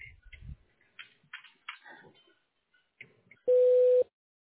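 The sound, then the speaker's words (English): A single steady electronic beep, the voicemail recording tone of the radiology director's line at Alliance Health Durant, sounds loudly for about half a second at the end, following a stretch of faint, muffled talk. “Please leave a detailed message after the tone.”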